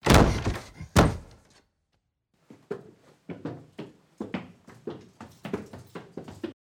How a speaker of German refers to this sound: Die Tür flog krachend auf.